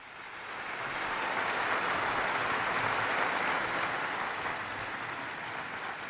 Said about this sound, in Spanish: Un aplauso al nuevo beato.